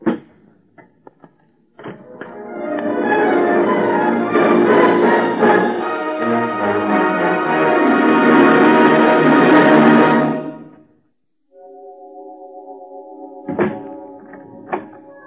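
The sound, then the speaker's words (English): A sword cupboard door shuts with a few brief clicks and a solid thunk. A long, loud sustained swell follows, then steady held tones broken by two more sharp knocks. “As far as I'm concerned, this is the last time I close this sword cupboard.”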